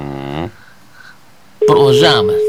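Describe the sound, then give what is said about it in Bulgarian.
A phone call rings out with a steady, unbroken ringback tone while waiting for someone to answer. The tone begins partway through and continues under loud talking, after a brief quiet pause. “Продължаваме да звъним. Докато не вдигне телефона.”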